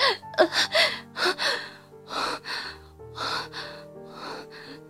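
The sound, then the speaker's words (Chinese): Heavy, labored gasping breaths of a man curled up on a sofa, struggling to breathe in big gulps, roughly eight ragged bursts in a strained, uneven rhythm, heard over soft sustained musical tones with no talking. “他想要站起来去追他，却发现自己连声音都快发不出来了，只能蜷缩在沙发上吃力的大口呼吸。”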